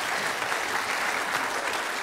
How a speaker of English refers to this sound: Can you give him a round of applause? You did wonderful.